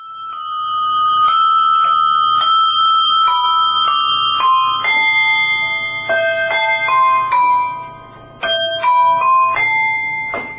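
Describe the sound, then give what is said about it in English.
A 96-year-old woman plays hand bells, ringing out a slow, simple melody, each clear note struck one after another and left to sustain and overlap, with no voices. “a talented 96-year-old who played for us her bells and piano.”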